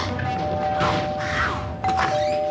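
A doorbell rings with a steady, sustained electric tone that holds for a couple of seconds, while a few soft thumps and muffled bumps sound.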